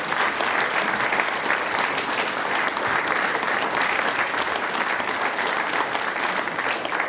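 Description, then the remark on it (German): Sustained audience applause after an interview with mayor Sebastian Wolf, a dense steady clatter of many hands clapping at even loudness for several seconds, with no voices standing out. “Euer Applaus.”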